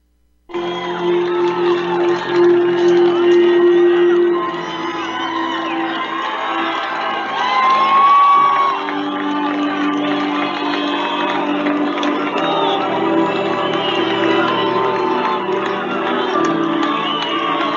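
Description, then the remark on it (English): A large crowd cheers and whoops loudly and continuously, a dense wall of overlapping voices and shouts with a steady low tone running beneath, swelling slightly partway through. “The crowd's going wild.”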